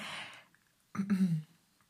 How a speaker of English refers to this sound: Sorry. If you can hear my dog yawning, sorry.